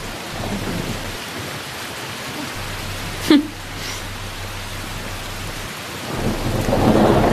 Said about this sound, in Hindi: तुम्हारे कदम अच्छे हैं कि बारिश होने लगी?